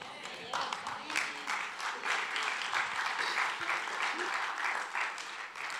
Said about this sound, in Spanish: Ese aplauso estuvo muy desabrido, hermano. Déselo al Señor, que Él se lo merece.